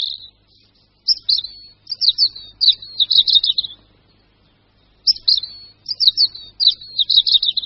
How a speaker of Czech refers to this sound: Při zpěvu sameček červenky sedí zpravidla vysoko nebo výše někde na větvi a každou strofu začíná takovými slabšími, ostrými zvuky a po nich pak následuje pro červenku tak typický trilek a zpěv opět je zakončen takovými slabšími, smutnějšími tóny.